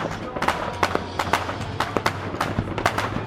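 A rapid, irregular volley of gunshots, a dozen or so sharp cracks in quick succession during an armed clash, over a steady low rumbling hum.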